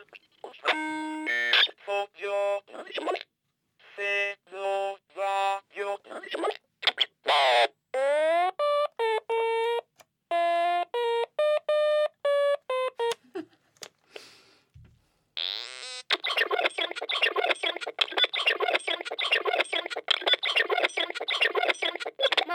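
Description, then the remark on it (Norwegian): A hacked board-game device held up to a microphone babbling in choppy synthetic speech-like syllables built from small linguistic units of the Japanese language, with bright harmonic chirps and sliding tones of varying pitch in rapid bursts, then switching to a dense buzzy stream of garbled noise-like chatter. “Ja, typisk den bare spytter ut lyder. Basert på liksom sånn små språklige bestanddeler av det japanske språket.”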